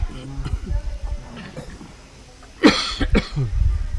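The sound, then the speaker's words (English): A voice imitates Jatayu coughing great quantities of blood from his beak: two harsh, raspy bursts close together near the end, preceded by low, strained vocal sounds. Fairly loud. “Then Jatayu began to cough great quantities of blood from his beak.”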